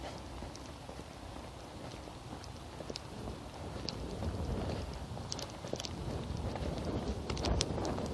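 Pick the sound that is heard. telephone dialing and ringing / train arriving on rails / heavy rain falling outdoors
heavy rain falling outdoors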